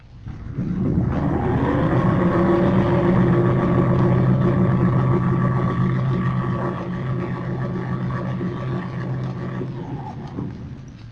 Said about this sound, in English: Here are several examples. First, bow plane motors.